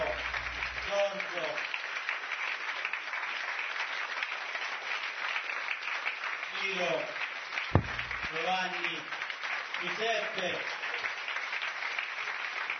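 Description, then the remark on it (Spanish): Steady, dense applause from a large crowd at a convention, honoring the convention organizers, runs through the whole stretch without letting up, while a voice speaks over it at intervals, partly buried under the clapping. “Todos los organizadores de la convención, quiero llamarlos aquí, démosles un afectuoso aplauso, honrémoslos, dice el Rab, a todos los organizadores.”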